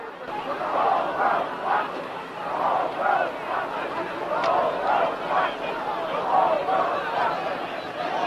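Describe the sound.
A large street-protest crowd chants "The whole world is watching" in unison, voices rising and falling in a steady repeating rhythm over a constant roar of massed shouting, loud and sustained throughout, at night by the Hilton as police clear the sidewalks.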